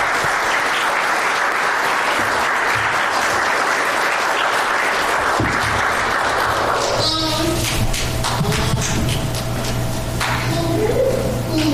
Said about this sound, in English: Thank you so much. Well, let's hear a round of applause for these guys.